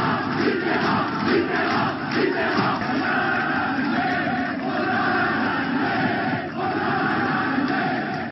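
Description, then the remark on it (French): A large crowd of left-wing supporters in France roars and cheers, celebrating François Mitterrand's election as president on 10 May 1981. It is a dense, sustained wall of voices with shouts rising out of it, staying loud and unbroken throughout. “Le peuple de gauche en liesse en ce 10 mai 1981, plein d'espoir, rose rouge à la main.”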